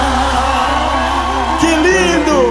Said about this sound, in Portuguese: Gente, muito mais aplausos pra essa dupla, gente.